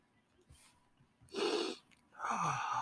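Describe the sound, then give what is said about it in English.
Two forceful, noisy sniffs of a freshly opened space dust drink, sniffed before drinking it, the second longer and rougher, separated by a brief pause after a quiet lead-in. “Yeah, sniff it before you drink it.”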